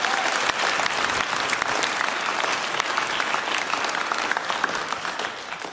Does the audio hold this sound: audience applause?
yes